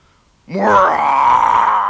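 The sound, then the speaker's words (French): A voice telling a story imitates a bear's growl as the bear leaps out from its shelter under a table: a loud, sustained, throaty roar that starts abruptly after a brief silence, its pitch sweeping upward and then holding steady until the end. “Gronda l'ours en bondissant de son abri sous la table.”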